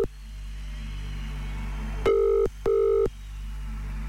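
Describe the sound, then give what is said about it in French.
A telephone ringback tone on an outgoing call to a randomly chosen person in Montfaucon, canton of Jura, Switzerland: two steady electronic rings about half a second each, separated by a short gap, heard clearly over a low hum with no talking. “Allez, troisième sonnerie.”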